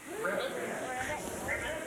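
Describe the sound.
Several children croak and ribbit together, imitating frogs as part of a group sound-effects activity, with overlapping, bleating voiced calls that run steadily for about two seconds at a fairly even, moderate loudness.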